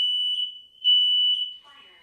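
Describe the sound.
A loud, piercing smoke alarm sounds in a sustained high-pitched tone with slight pulsing swells, before a voice begins speaking at the very end.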